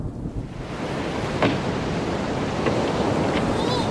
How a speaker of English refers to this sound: I've never seen waves this size before.